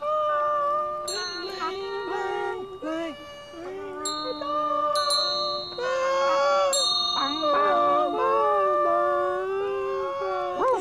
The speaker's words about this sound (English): If there's any problem at all, I will ring this bell.